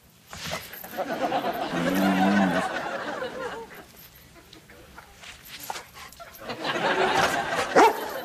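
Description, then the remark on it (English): A dog, Comet, barks and yelps in two clusters of short, excited bursts, one early and one near the end, with a quieter stretch between them, while performing tricks cued by hand signals. “Kind of like your own doggy remote control.”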